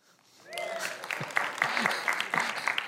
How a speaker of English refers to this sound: You were going to clap, and you can.